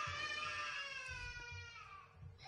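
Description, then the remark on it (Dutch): A young child cries during a sermon in one long, sustained wail that slowly drifts downward in pitch, heard alone over a low background rumble and steady at moderate loudness throughout. “Zou dat toch zijn door mijn prediking dat dat kindje zo emotioneel gekomen is?”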